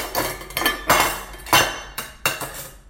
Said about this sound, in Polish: Mama przygotowywała dla wszystkich obiad, trzaskając w kuchni garnkami.